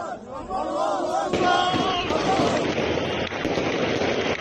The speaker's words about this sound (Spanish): Miles de sirios han salido en las últimas horas a celebrarlo a las calles de Damasco. Entre el sonido de los disparos al aire de los rebeldes, el ruido del claxon de los coches y la música también a todo volumen.